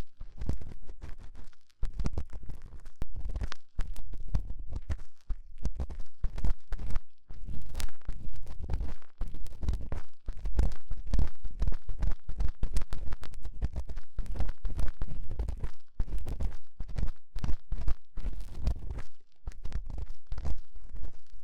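Loud trampling footsteps pound on without pause, a dense, irregular barrage of heavy thuds mixed with crunching and crackling as things get stepped on. No voices.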